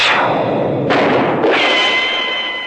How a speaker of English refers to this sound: A gun was pulled. A shot rang out. I said a shot rang out. That does it. A gunshot rang out.